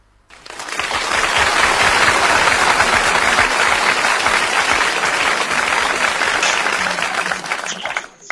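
An audience claps steadily for about seven seconds, a dense, even wash of many hands that swells quickly, holds loud and full, then tapers off near the end. No one speaks over it.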